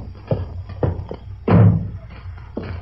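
A door is pushed shut with a solid, muffled thud in the middle, surrounded by a few lighter knocks and bumps; otherwise quiet.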